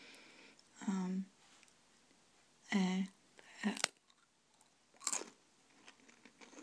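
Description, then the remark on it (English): Crunching of broken bits of a thin, crisp, triangle-shaped seaweed cookie being chewed, in four or five short brittle bursts spaced a second or so apart, with quiet pauses between bites. “As you can hear, very crunchy.”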